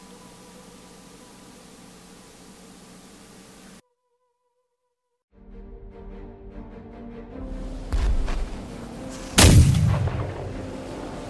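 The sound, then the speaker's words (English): A steady low drone cuts to silence, then rumbling builds into two heavy explosions erupting beside a ship in battle, the second louder, amid a rushing, crashing wash of waves against the ship and water splashing onto the deck. No one speaks. “Waves crash against the ship as an explosion erupts next to it.”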